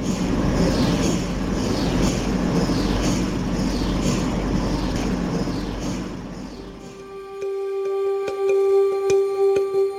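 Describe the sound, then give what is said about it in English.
A big white cylindrical MRI machine in a bright hospital room, used for focused ultrasound, makes a loud, rhythmic pulsating noise, a steady stream of whooshing beats that gives way to a sustained high electronic tone with faint ticking. No one speaks. “In the middle of the room is a big white cylindrical machine that makes this strange pulsating noise.”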